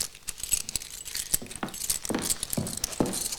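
Keys jingle and clink with a bright metallic rattle, followed by a few sharp clicks and clunks as a woman turns a key to lock a door behind her on leaving a room. No one speaks.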